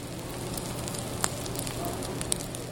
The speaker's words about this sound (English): A 25-ounce grass-fed bone-in filet sizzles on the grill at Anton's taproom.